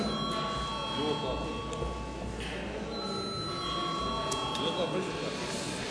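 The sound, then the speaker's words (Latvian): A parliament voting bell rings continuously for several seconds in a steady, high-pitched electric tone, called before a vote on a bill amending the state civil service law in first reading, while a low murmur of many voices carries on underneath. “Lūdzu atbalstīt pirmajā lasījumā. Paldies, lūdzu zvanu.”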